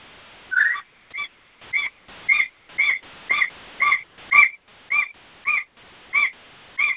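A baby magpie calls over and over, about a dozen short, raspy, nasal squawks at a steady rhythm, clear, with no talking.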